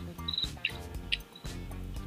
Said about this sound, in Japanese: お？今聞こえる？ 聞こえる。 あー、スズムシじゃん。 外にいるやつ。 外だよ。